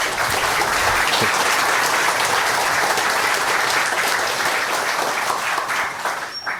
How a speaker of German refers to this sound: Bitte einen Applaus für ihn.